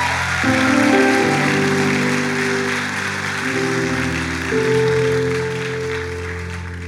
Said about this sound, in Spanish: Démosle un fuerte aplauso al Dios que nos protege, al Dios en el que confiamos.